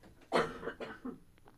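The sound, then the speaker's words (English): Someone clears their throat: one sharp, forceful rasp followed by three shorter, softer rumbles trailing off, with no talking. “Excuse me a moment. I need to clear my throat.”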